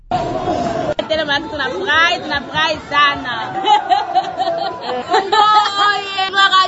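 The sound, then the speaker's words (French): A loud crowd of young people in the streets of Goma cheers and chants, celebrating qualification at the 2026 World Cup after the final whistle of a group-stage match, many voices overlapping in a continuous, excited roar with raised shouts rising and falling throughout, between 4 and 6 a.m. “Les jeunes de tous les quartiers poussaient des cris de joie en scandant des chants et exhibant les pas de danse pour célébrer la”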